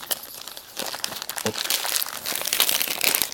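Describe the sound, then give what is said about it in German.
Wrapping paper, folded and closed with sticky tape, crinkles and rustles steadily as a gift is unwrapped, with dense papery crackles and a few sharper crunches, and no one speaking. “Ich schieb das jetzt einfach durch das Geschenkpapier, wo an der Stelle, wo ich es geöffnet habe, durch.”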